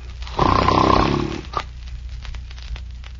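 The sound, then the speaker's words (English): A single loud, rumbling snore drawn out for about a second from someone who has fallen asleep, followed by a quiet stretch with faint background noise. “Now the pet went to sleep too, boys.”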